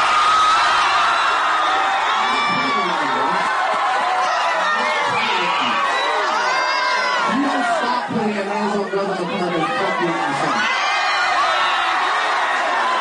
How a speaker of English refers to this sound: And then the crowd was like, ah!